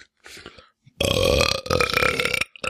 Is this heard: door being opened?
no